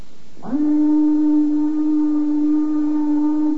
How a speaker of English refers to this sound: There it goes, the old 5 o'clock whistle. And it couldn't come too soon, believe me.